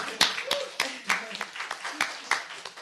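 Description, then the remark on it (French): A small group claps for a few seconds, sharp hand claps landing in a quick, slightly uneven rhythm, with faint voices murmuring underneath, applauding someone who has just earned a doctorate in art history. “Et je pense que ça mérite des applaudissements.”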